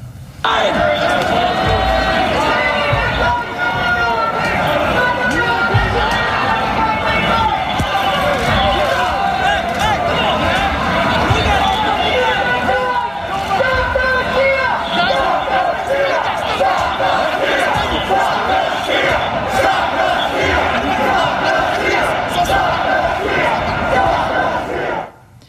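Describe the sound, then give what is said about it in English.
A large crowd at a rally chants "Stop the steal" together, a dense, loud wall of many voices that holds steady for the whole stretch before cutting off abruptly. “You heard them chanting, "Stop the steal."”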